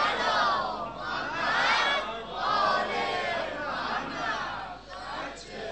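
A large crowd chants salawat in unison, many voices rising and falling together in a loud, steady, rhythmic wave of sustained group recitation, with no single voice standing out.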